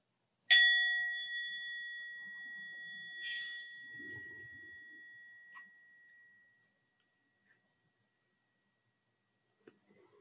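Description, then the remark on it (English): A single meditation bell is struck once to begin a meditation practice, its bright metallic tone ringing out clearly and then slowly fading over several seconds into quiet, with a few faint soft clicks near the end. “But we'll begin the practice just simply with the sound of the bell.”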